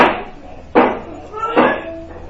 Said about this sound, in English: What's happening is you're opening the door and, since you're opening the door, wind's coming in, and when wind comes in, it as you all know, a wind will make the fire go up.